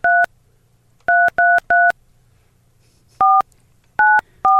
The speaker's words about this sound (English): Listen to touch tones all morning.